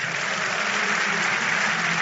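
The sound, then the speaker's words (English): A large audience at a Christian prayer service claps together for God in dense, sustained applause that stays loud and steady throughout, with no voices standing out above the clapping. “Don't you think God deserves a bigger clap?”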